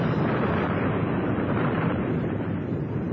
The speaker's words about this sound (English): This is madness. You see the way the lava is flaming and bubbling? It's likely to explode any second. We are lucky. It's erupting at the side.